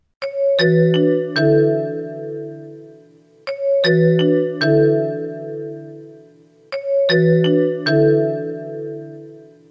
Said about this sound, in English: That was a noise kind of like ice cream truck bells. It seemed to be the one that people could identify the easiest and say they could hear. The problem is you don't feel that some type of danger is around.